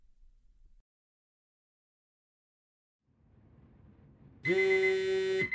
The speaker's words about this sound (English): Every weekday at 6:30 a.m., my alarm goes off.